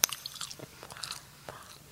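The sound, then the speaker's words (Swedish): Crisp ASMR crunching and chewing of food right against the microphone, a quick run of bites and wet mouth sounds with no talking, each crunch sharp. “Och vad heter det när man äter och så lyssnar folk på det? Är det ASMR eller ja, MSAR?”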